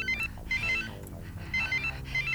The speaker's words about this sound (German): Denn plötzlich hörte ich hinter einer Hecke ein anderes Handy klingeln.